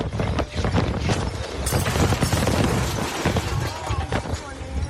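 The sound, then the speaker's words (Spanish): Strong wind roars steadily while a glass recycling igloo container is blown away by strong gusts, banging and clattering with sharp, irregular knocks and a burst of jangling, glassy rattling partway through. “Este es el momento en el que un iglú para el reciclaje de vidrio sale volando por las fuertes rachas de viento.”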